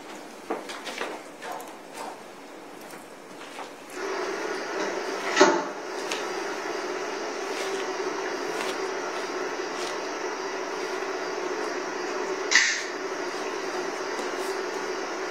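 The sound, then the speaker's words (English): Two sharp metallic knocks of a gun magazine being slammed onto a table land several seconds apart over a steady background hum; each is a single abrupt impact. “Putting the magazine and slamming it on the table.”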